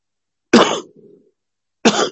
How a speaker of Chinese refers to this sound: 有时候我咳嗽一下，你们注意啊，现在感冒还没有完全好，所以有时候，不是心，就是鼻涕那种的，有一点咳嗽一下或者是那样的话，就请大家，就是多多见谅。